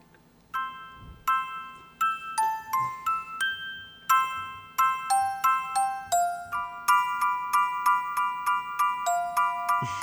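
Tubular bells chime a steady melody, each struck note ringing clearly and decaying before the next. Strikes come in a regular rhythm and thicken toward the end, loud and close with no voices.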